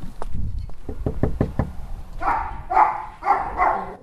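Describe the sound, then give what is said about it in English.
A quick series of sharp knocks on a house door as a political candidate canvasses a neighborhood in the middle of the day, about half a dozen in a row, followed by several loud barks from a few dogs, one after another. “Hill's door knocking stirs up a few dogs, but not their owners”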